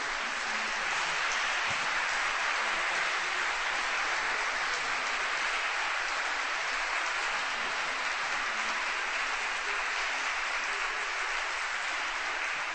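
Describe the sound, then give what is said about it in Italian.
Sustained audience applause, a dense steady wash of clapping hands that holds at an even level for the whole stretch with no voices breaking through. “avremo modo ora di tributarle nuovamente un applauso.”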